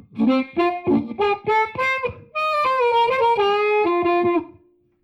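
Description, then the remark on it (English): Clean electric guitar through a 65 Deluxe Reverb amp: a quick run of plucked single notes, then a sustained melodic phrase that rings out and fades into a short reverb tail. No voices. “And a 65 Deluxe reverb.”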